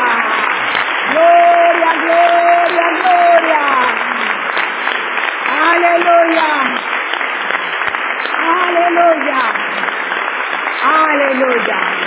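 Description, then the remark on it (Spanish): The audience of the Más que Vencedores church claps loudly and steadily for about twelve seconds to welcome a newcomer, a dense continuous roar of hands, while voices rise and call out over it in several swelling bursts. “Un aplauso.”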